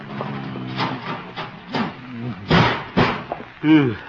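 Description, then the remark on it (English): A heavy metal filing cabinet is scraped and shoved across the floor in a few grinding pushes to barricade a door, ending in dull thumps against the door, with a person's voice straining in between. “Filing cabinet.”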